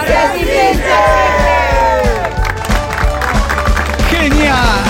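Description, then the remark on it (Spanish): A large crowd shouts and chants together in loud unison, voices rising and falling in a steady rhythm over a pounding, regular drumbeat. “Bueno, la coordinación para gritar, la resistencia existe, bueno.”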